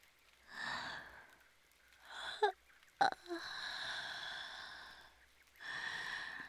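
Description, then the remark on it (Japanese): A big, drawn-out yawn: breathy inhales, then a short voiced catch and a long, airy, moaning exhale that trails off into another soft breath. No speech. “そなたを見ていたら大きなあくびが出てしまったぞ。”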